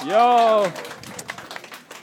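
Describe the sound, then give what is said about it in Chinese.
A voice calls out briefly, then a few scattered, uneven handclaps follow to welcome three guests, thin and sparse rather than a full round of applause, trailing off quietly. “哇，你们收到了稀稀拉拉的掌声啊。”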